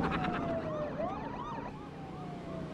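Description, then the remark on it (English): Several police sirens from police cars crowding around a car wail at once, their pitches sweeping up and down and overlapping, over a steady rumble of traffic. “Driving away, Felix looks through the rear window at police cars crowding around Kane's car.”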